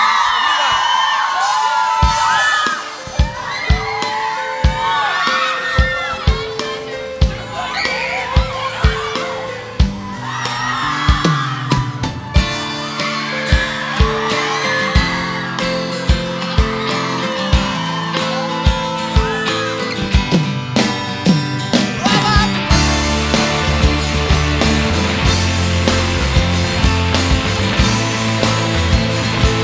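A song plays loudly, with a steady thumping beat, a deep bass line and a melodic singing voice, building into a fuller, denser arrangement toward the end.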